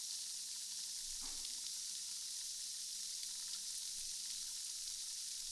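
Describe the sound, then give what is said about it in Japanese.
Steady fizzing of a carbonated drink, with a dense hiss of tiny bubbles and faint crackling pops throughout, plus one brief swishing sound near the start. No one speaks. “炭酸ってなんでこんなに気持ちよさそうなんだろう。ちっちゃい泡が水面に浮いて弾けて、パチパチ、シュワシュワってなるの、いいよね。”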